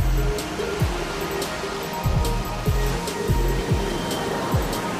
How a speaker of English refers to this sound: So just where do all these waves come from? Heat from the sun warms our planet. As the Earth spins, the winds move in circles, sweeping over the surface of the sea, bringing it to life.